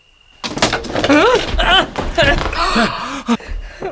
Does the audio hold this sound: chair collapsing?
yes